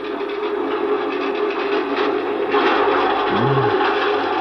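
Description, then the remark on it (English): A steady, broad train rumble with faint rhythmic clattering of wheels over rail joints, rising slightly in intensity halfway through, and a brief low hum sliding up and down near the end. “A train can't be going fast and slow at the same time.”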